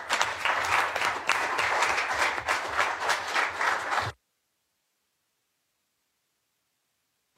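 A short burst of applause from a group at an evening meeting, dense overlapping claps at steady loudness for about four seconds, then it stops abruptly into silence.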